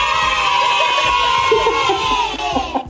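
A crowd cheering and shouting in a loud, steady roar of many voices, scattered higher yells poking through, lasting about three seconds before cutting off abruptly.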